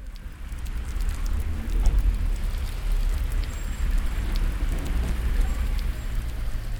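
Heavy rain pours down in a steady, dense roar, with a deep low rumble of rushing water underneath as the water gushes down in a river toward the Bosphorus, and scattered sharp drips and splashes. No voices.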